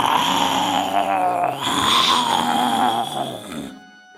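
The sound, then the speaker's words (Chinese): A loud, drawn-out roar lasting several seconds, rough and raspy with a wavering pitch, then cutting off abruptly; it sounds like a human voice imitating a lion. “狮子实在没招了，只好盯着马斌先生的眼睛，张大嘴巴，吼出生平最响亮的声音。”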